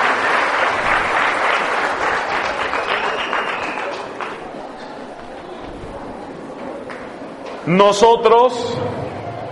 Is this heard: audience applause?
yes